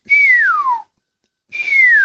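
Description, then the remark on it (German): Two loud, piercing descending whistles from a common starling, each lasting under a second with a short silent gap between them, clear with no other sounds. “Das sind mal so ganz laute, durchdröhnende Pfiffe.”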